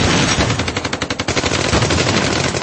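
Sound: machine gun fire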